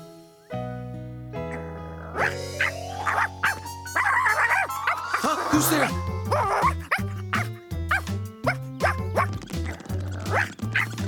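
A dog barks and yips in quick, repeated bursts over a steady musical background, fairly loud, continuing through most of the stretch.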